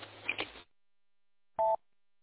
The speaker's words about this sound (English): Have you ever dialed a phone number through your radio? That's kind of fun.